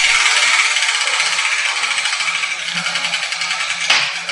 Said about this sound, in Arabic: نعم، فإلى دولاب الأحرف. هيا ابدأي بتحريك الدولاب. حسنا.